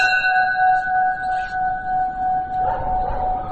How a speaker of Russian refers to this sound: Или высокий колокол. Это тот колокол, который имеет не каноническую форму. Он вытянут вверх.